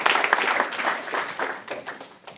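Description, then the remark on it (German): Steady applause from an audience for Herr Hein, managing director of the recommendation service Wuaki TV: a dense wash of many hands clapping that holds fairly loud throughout, then begins thinning out toward the end. “Herr Hein, kommen Sie gerne her, das ist Ihr Applaus.”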